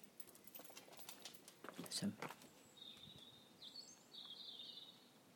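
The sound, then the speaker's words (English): A blackbird sings faintly in the distance, a few fluting warbled phrases in the second half, following some close rustling and shuffling noises outdoors. “I can hear a blackbird in the distance, I'm sure.”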